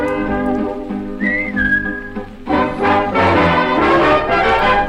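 A bright whistled melody glides over a dance-band accompaniment on an old song recording, then the full band swells louder and busier in the second half.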